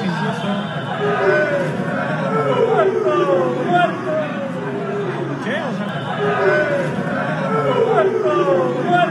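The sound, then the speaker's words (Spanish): A dense crowd jeers and boos footballer Uriel Antuna as he arrives at the club facilities, many overlapping voices shouting and calling out in a loud, continuous, rowdy roar that rises and falls for several seconds. “Bueno, y al llegar a las instalaciones, ¿qué creen? Pues que hubo abucheos. Escuche usted esto.”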